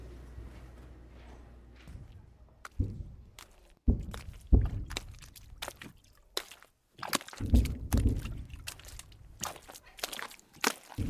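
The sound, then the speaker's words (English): Heavy footsteps slosh and squelch through a foot and a half of muddy water at the front line, an irregular series of wet splashes and sucking steps with drips between them, no voices. “Now we knew we were well and bloody truly in the front line, dragging our feet for a foot and a half of muddy water.”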